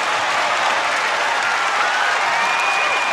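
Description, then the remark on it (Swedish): A large crowd of young festival-goers cheers and applauds continuously as performers enter the stage, a dense wash of clapping and shouting that stays loud and steady throughout, with a few whistles cutting through. “Av jublande ungdomar.”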